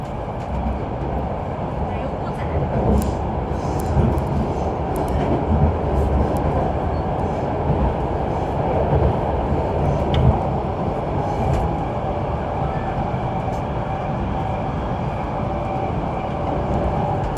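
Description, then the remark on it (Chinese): A subway train running toward its terminal station, Xiluhu, heard from inside the carriage: a loud, continuous low rumble and rattle from start to finish, with occasional faint metallic clicks and squeaks above it. “尊敬的各位乘客，为了您和他人的健康，乘坐地铁时，请您务必全程佩戴口罩，不摘口罩，保持安全距离，减少走动。”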